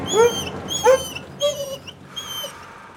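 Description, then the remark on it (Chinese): A dog, Bobby, left in the house with dog food, whimpers in four short, high-pitched whining cries spread across a few seconds, each rising and fading, with no one speaking. “来 ，Bobby， 这些狗食给你，要乖乖看家哦。”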